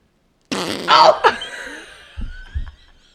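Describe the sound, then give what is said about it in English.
Wet, squelching fart-like noises from Flarp noise putty, a juicy burst followed by a couple of low, blubbery pops, with faint snickering laughter mixed in. “This is the episode. It's just an hour of flarp.”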